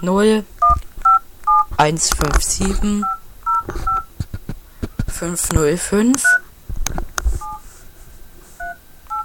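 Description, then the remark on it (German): A phone number is dialed on a tablet as a quick series of bright touch-tone beeps, about a dozen short two-note tones, while a man talks over and between them. “So, ich habe nämlich hier mein Handy. Oh, mein Tablet. Okay, jetzt will ich die Nummer.”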